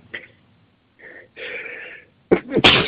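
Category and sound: human body sound, sneeze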